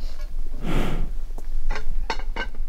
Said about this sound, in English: The bear's breathing is slow. It smells kind of like a wet dog, but stronger. But instead of kibble breath, raw elk breath.